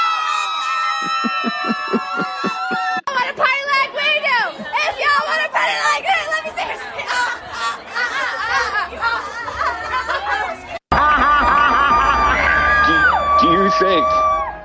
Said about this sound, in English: She's just screaming into her phone, but that's kids today